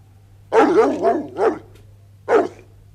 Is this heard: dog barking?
yes